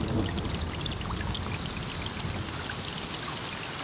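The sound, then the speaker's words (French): A steady, dense wash of falling water from a summer rain shower, with scattered sharp droplet ticks over a constant hiss, even in loudness throughout, with no voices. “averse d'été. La pluie bat sur la tête des carpes.”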